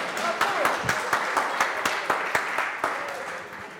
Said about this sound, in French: Et on peut l'applaudir parce qu'alors là...